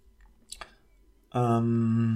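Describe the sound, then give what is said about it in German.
A couple of quick, wet lip smacks, followed by a loud, sustained voiced exhale like a satisfied 'aah', after a sip of beer. “Oh, hier also kein Schmatzschutz. Ich kann das nicht trinken.”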